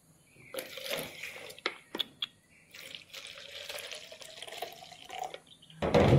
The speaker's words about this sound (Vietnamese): Xin mời Ngài. Rót ly nước mời mà nó chảy tùm lum. Mời Ngài uống ly nước.